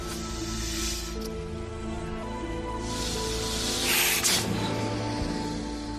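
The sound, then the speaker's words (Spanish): A snake hisses in two long, airy bursts, the second louder, over a steady low musical drone with no one speaking. “también se suicidó, y lo hizo con el mordisco de una serpiente para que fuese una muerte rápida e indolora.”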